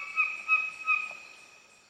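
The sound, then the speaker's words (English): A songbird sings a few high, clear whistled notes in quick succession, bright and tonal, fading out over the last second with no voices present. “just slowly doing these notes, these little trills and grace notes and chords. And then every once in a while, we'll throw in this weird, odd squawk or ugly noise, just so we know it's actually a bird.”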